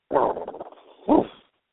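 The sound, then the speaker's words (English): A dog barks twice, a longer rough bark followed after a short pause by a sharper one, fairly loud with a thin, muffled tone. No one speaks. “Yes, the dog.”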